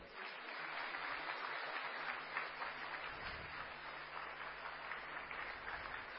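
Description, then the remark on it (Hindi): Sustained applause from an audience as an honoured guest is presented with a shawl at a ceremony, a dense steady wash of many hands clapping for several seconds at even loudness, with no voices rising above it. “सभी तालियों से”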